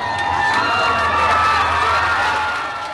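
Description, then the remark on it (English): A large crowd at an election-returns party across from the Eiffel Tower in Paris cheers and shouts in a loud, sustained roar of excited voices as the Obama victory is called around 5:30 in the morning, dense and continuous for a few seconds before easing slightly at the end. “The crowd watching the election returns at a party across from the Eiffel Tower erupted in cheers when the race was called around 5:30 in the morning.”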